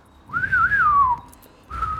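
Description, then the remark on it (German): Someone whistles a western film theme melody like the whistling in Clint Eastwood's A Fistful of Dollars films: a clear, wavering phrase that rises and falls for about a second, a short pause, then another steady note, with no talking. “Ich denke gerade an eine Handvoll Dollar oder eine Handvoll Dollar mehr mit Clint Eastwood, wo dieses Pfeifen kommt.”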